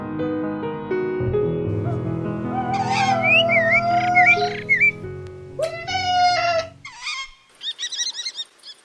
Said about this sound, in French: Le faucon cresserelle. Je suis un petit rapace au plumage beige, gris et brun clair. Mon bec est crochu, mes pattes sont jaunes et équipées de serres acérées. Je niche dans des falaises.